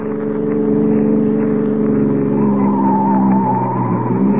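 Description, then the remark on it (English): A police car's engine roars steadily at high speed, doing 70, while tires squeal in sustained, rising whines over the loud, continuous motor drone; no voices are heard. “Sure, this cop's buggy can travel.”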